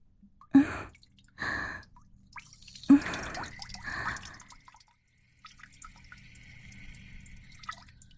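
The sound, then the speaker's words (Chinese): Urine streams into a toilet in short, sharp bursts, an uneven stop-start pattern of four spurts in the first half, followed by a quieter, steady trickling hiss. “尿起来怎么断断续续的？马桶会吞咽不及的。”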